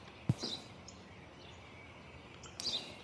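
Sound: sparrow chirping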